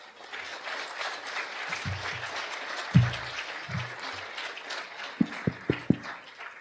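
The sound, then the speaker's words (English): A crowd applauds a discussion panel, a dense wash of clapping that holds at an even level throughout, with a few sharper individual claps and low thumps standing out near the end. “Please give our panel one last round of applause.”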